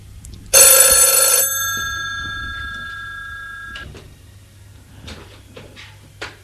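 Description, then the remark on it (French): A single loud ring of an old-fashioned telephone bell during the day, a harsh metallic jangle that stops abruptly and leaves a ringing tone fading over a few seconds, followed by faint background noises. “Dans la journée, le téléphone sonne.”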